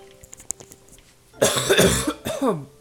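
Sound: throat clearing and coughing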